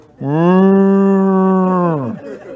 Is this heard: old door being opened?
no